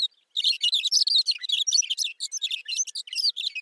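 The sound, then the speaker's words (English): A thick-billed longspur delivers a long, continuous burbling song of rapid, jumbled twittering notes, clear, with no other sounds or voices, in the short grass prairie of eastern Montana. “The bird's long, burbling song helps create the summer soundscape of the high plains.”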